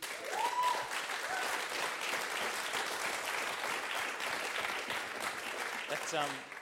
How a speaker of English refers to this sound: I think that applause proves it. Like, that's something that gamers have been feeling a long time. Do they have a screen that just says applaud? Or... No, we've trained them to do that over a series of months.